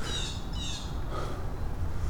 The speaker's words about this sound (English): Where are these guys yapping? What is going on up here? Okay, I have vision of nothing. I can't see anything. I can hear yappy, angry birds. They're over there.